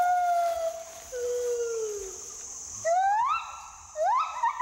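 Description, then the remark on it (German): Male and female gibbons sing a love-song duet of long whooping calls, descending hoots followed by rapidly rising, accelerating notes, with several clear overlapping tones ringing out loud. “Liebeslieder. Da singen dann Männchen und Weibchen zusammen. Wie so ein Duett in der Oper.”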